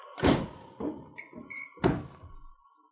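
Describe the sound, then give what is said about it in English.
A wooden woodshed door thuds shut with a heavy knock as crooks lock prisoners in, followed by a few duller bumps and a brief metallic clink of a latch or bolt, then one more solid thump. “Shut the door. We lock them in.”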